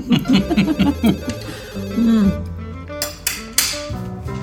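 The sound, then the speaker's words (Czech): A telephone rings with a rapid, trilling bell in quick repeated bursts, loud, followed by a few sharp clatters and knocks as the ringing stops. “Zvedni ten telefon.”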